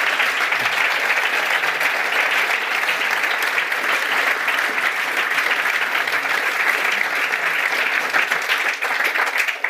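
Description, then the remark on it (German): Sustained audience applause for Wolfgang Kubicki, a dense, steady wash of many hands clapping at an even loudness for the full stretch, with no voices standing out above it. “Wollen wir erstmal einmal für Wolfgang Kubicki klatschen?”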